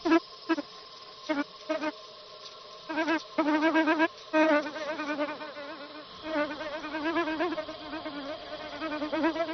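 A male bee delivering pollen buzzes around a bucket orchid, first in short stop-start bursts, then in a steady, wavering drone whose pitch rises and falls as it circles around.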